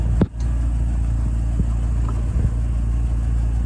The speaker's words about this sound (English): Oh God, the idiot is backing up. Please don't hit my car. Please don't. Yeah, he was just burning rubber.